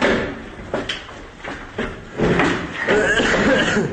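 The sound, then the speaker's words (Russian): Repeated heavy impacts and metallic clatter as an apartment door is forced open in Selidovo, on the Pokrovsk direction, with a series of banging blows spaced irregularly over a few seconds, loud. “Хату вскрыли, сейчас вторая вскрывается.”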